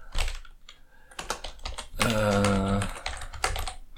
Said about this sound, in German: Heute mal wieder mit Tastaturgetippe.